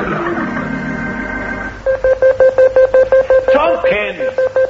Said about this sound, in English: The alarm's going. There's a message coming through on the radio.